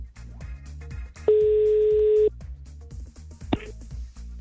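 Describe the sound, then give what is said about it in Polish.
A telephone ringback tone sounds once while a call is being placed, a steady loud beep lasting about a second over a low background hum, followed later by a short, sharp electronic blip. “O, jest sygnał, to już dobry znak.”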